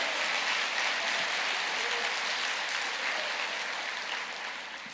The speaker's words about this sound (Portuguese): Amém? Aplauda mais.